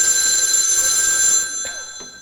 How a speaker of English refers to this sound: As we look in on our little community today, we find the old fellas down in the Jotum Down store and library. Lum's answering the phone. Let's listen.